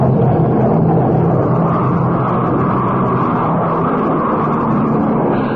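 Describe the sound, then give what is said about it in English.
An airplane's engines drone loudly and steadily as the plane flies away, heading back to England, a dense low rumble with a broad roar above it that holds an even level throughout, with no voices. “There goes the plane back to England.”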